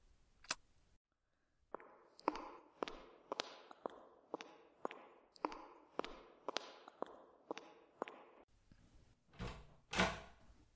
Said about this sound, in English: I'll go get the door. They've been waiting long enough.